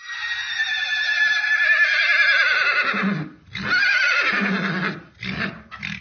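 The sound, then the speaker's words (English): A horse whinnies loudly: a long, quavering neigh falling in pitch, a second shorter whinny, then a couple of brief nickering bursts at the end. “They don't whinny like the horses up at Karlsruhe.”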